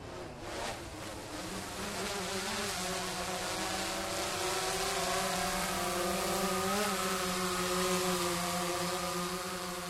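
A drone's steady, high-pitched motor whine hums continuously with layered harmonic tones, wavering slightly in pitch as it flies in for a landing, loud and alone without any talking.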